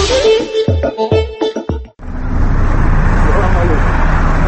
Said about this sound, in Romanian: Pe strada Putin, cea mai importantă stradă din Grozny, trec mașini scumpe